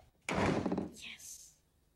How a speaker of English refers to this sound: He shuts the door.